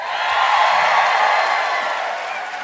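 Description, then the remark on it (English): An audience in Des Moines, Iowa breaks into steady applause with cheering mixed in, a dense wash of clapping that holds at an even, loud level for a few seconds before easing slightly. “Easy applause line.”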